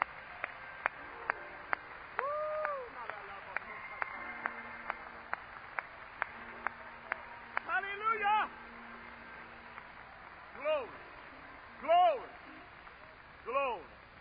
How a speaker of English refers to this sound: Now let's put our hands together and give Him a hand clap of praise.